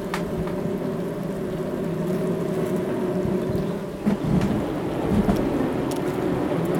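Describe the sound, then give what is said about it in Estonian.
A dense, steady buzzing drone of many honeybees inside a hive under a bed, fairly loud, holding an even level throughout with a low humming tone and no voices. “Kuulakem, kuidas mesilased voodi all sumisedes seda tugevdada aitavad.”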